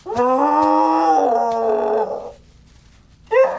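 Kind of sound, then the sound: animal, monster roaring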